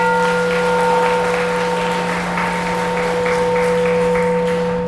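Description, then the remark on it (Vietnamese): An audience at a Buddhist teaching talk applauds steadily for several seconds, a dense wash of many hands clapping at once, fairly loud, with a constant electrical hum from a sound system running underneath. “Nếu các bạn thấy đề lời nghị theo tinh thần Phật dạy là hợp lý đó, thì hãy cho một tràng pháo tay thật lớn.”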